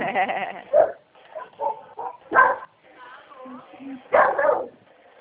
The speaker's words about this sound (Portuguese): Eu não saí daqui que o cachorro tá me atravessando. Ele tá bravo. Não, é que passa a gente na rua e late.